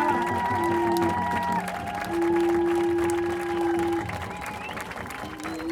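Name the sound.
crowd applauding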